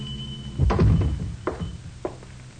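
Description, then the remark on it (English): The door of a small, dark hardware store on the west side is pushed open by a teenage boy after 10 at night, with a heavy, low thunk and a brief rumble, followed by two lighter knocking bumps spaced about half a second apart, with no voices. “It's after 10 and the store is dark, but one of them pushes the door open, enter, and walk cautiously to the rear, where a small naked light bulb burns dimly.”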